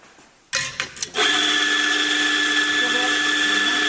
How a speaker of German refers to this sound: Der wird frisch gemahlen, der Kaffee. Duftet fantastisch.